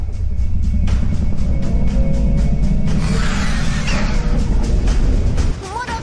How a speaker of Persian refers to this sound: به تندر گوش کن